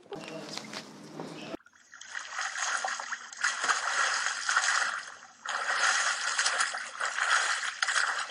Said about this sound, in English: … said they were in a terrible flood. It is a flood.